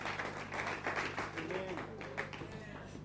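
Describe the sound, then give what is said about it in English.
A church audience applauds steadily, a dense wash of many hands clapping, with a few voices calling out faintly beneath it. “Give her a bigger round of applause than that.”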